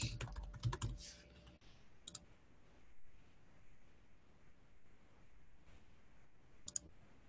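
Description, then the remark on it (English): A quick flurry of computer keyboard typing for a second or so, then a few isolated key clicks scattered over a quiet background. Fairly crisp, with no talking. “I was typing in the old version.”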